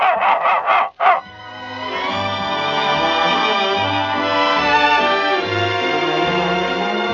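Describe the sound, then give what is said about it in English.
A dog barks four or five times in a quick burst on the command "speak" in a Gaines dog food radio advertisement for National Dog Week, then falls silent as loud, sustained orchestral music swells in and carries on alone. “So remember, Fido, during National Dog Week and all year round, speak.”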